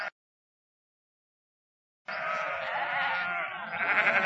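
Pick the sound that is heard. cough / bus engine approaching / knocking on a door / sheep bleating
sheep bleating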